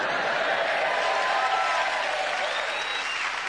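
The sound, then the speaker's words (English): A large theatre audience at the Theatre Royal in Nottingham applauds steadily at a recording of Just a Minute, a dense wash of clapping with a few faint whoops and cheers rising over it, sustained and even throughout with no speech. “Who are just ready to cheer us on our way.”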